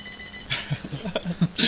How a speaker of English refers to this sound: Phone's ringing.